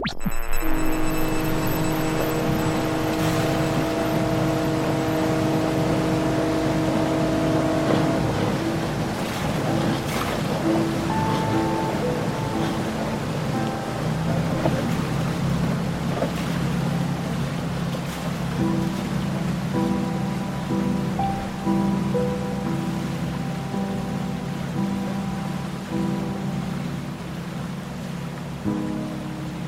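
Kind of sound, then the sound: nature, underwater sea ambience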